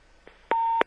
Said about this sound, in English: Wait, I don't know what that is. One second. Somebody's phone is ringing.